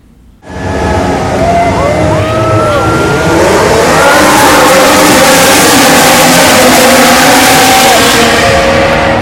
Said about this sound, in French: Alors, mesdames et messieurs, démarrez vos moteurs et c'est un départ!